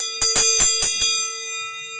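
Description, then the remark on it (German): A bell rings out with five quick, evenly spaced strikes, its bright metallic tone hanging in the air and slowly fading after the last stroke. No one speaks. “Eine Stunde später, es läutet”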